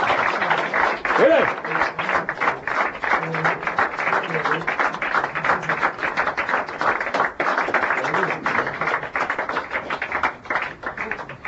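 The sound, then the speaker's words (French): A crowd applauds steadily for about eleven seconds, a dense, even patter of many hands clapping, with faint voices and a brief shout mixed in, at an awards ceremony as Gabriel Knight 2 receives the gold award for best PC adventure game. “S'il vous plaît, on peut l'applaudir où il est.”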